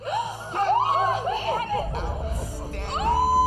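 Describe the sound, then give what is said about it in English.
A crowd of voices in a room cheers and laughs together, congratulating Katniss Everdeen of District 12 on her score of 11, in a loud, steady din, with excited shouts and rising whoops above the babble throughout. “Most everyone in the room is cheering, congratulating Katniss”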